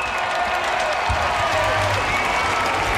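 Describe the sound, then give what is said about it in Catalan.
A large crowd of faithful in the square at Montserrat applauds and cheers as the Pope appears on the central balcony and greets them, a dense, steady wash of clapping and voices with a low rumble underneath, continuous throughout. “Saluda a la gent, aplaudiments, s'aboca al balcó, saluda els que estan just a sota del balcó, té uns micròfons preparats per tal d'adreçar unes paraules a la gent, cridòria de tots els fidels que han estat seguint aquesta cerimònia des de les places.”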